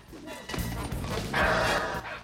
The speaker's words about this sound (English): The guard dog trips DJ up with his tail and knocks him onto the floor.